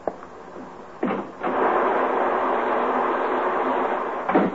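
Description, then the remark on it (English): Heavy rain, easing up a little, pours outside a house with a front porch in a dense, steady hiss that swells after a second and holds level, broken by a few brief louder thuds or gusts near the start and end. No voices. “Is the rain letting up a little, or am I just getting used to it? It doesn't sound as bad as it did.”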